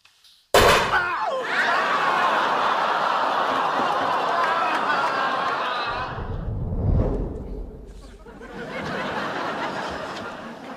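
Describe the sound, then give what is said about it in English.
A single loud, sharp gunshot cracks at a shooting range, followed by several seconds of dense, echoing noise with a low rumble, and what sounds like muffled laughter underneath. “Let's shoot stuff.”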